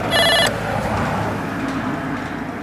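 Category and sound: signal or alarm, doorbell ringing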